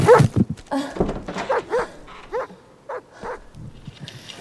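A dog shut inside a house barks and yelps in a series of short, uneven bursts, loud at first and then softer, with brief pauses between each call.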